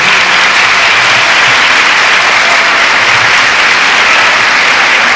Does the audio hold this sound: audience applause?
yes